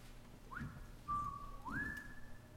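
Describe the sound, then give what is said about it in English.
A person whistles a three-part whippoorwill call: a short rising note, a flat steady tone, then a swooping rise that holds high, clear and fairly loud with no talking. “a bird that lives in the bushes, a bird that no one ever sees. They can only hear its song.”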